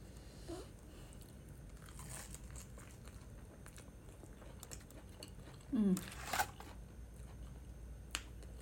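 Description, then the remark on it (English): Crunching as someone bites into and chews crisp food, with scattered sharp crackles and one louder, juicier burst of crunching partway through against a quiet background. “So good, I could eat the other one.”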